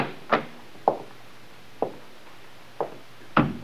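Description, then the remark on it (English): A library door being opened, heard as five sharp, irregularly spaced clicks and knocks of the latch and wood, with no one speaking and faint hiss between the sounds. “This must be the library. Try the door, Muggin.”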